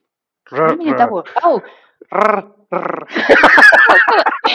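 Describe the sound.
A voice rolls its R's, a few short trilled bursts followed by a long, loud, rattling double-rolled trill that sounds almost like a growl.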